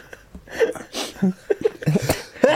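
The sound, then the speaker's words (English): A sharp sneeze bursts out among breathy chuckles and short voiced sounds, followed by more snickering and quick exhalations. “Sneezes. You got a little bit of snot there”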